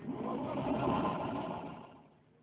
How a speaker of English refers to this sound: It won't start. What? The car won't start. It must start.